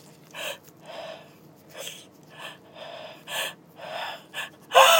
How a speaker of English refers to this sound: Uh-oh, they stopped. Oh my God, I gotta sneeze.